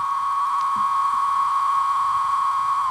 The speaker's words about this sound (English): Only the male cicadas sing to attract the females for mating, like this one that landed on my microphone during this recording.